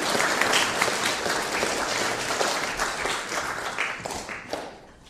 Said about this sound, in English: I think they all deserve a big round of applause.